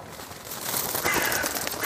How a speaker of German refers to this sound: Auch die Raben haben den Teer und die Süße in der Luft gerochen. Spitze, schwarze Schnäbel ragen wie Dorn von den schiefen Dachfürsten der schmutzigen Häuser. Es sind unzählige und alle scheinen in die Richtung des Wassers zu starren.